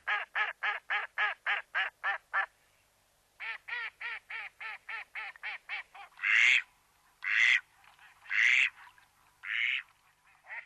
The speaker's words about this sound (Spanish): Y vemos también al azulón, esos patos con cabeza brillante que parece pintada de azul verdoso.